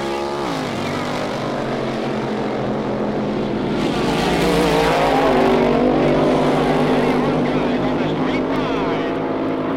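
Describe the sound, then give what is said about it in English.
Loud engine roar from two drag racing cars, driven by Danny Onguys and Tony Nancy, sitting at the starting line before the countdown: a thick rumbling idle with pitch swells as the engines rev, holding steady for the whole stretch. “Both cars are just sitting there.”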